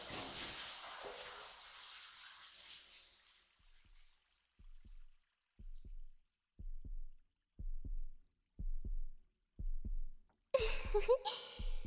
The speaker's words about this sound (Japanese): こうやってひっくり返しちゃえば心音が聞こえますね。嘘はダメですよ。あなたの胸もドキドキしてるじゃないですか。